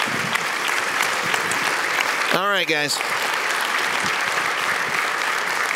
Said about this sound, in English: Can we give a big cheer for the awesome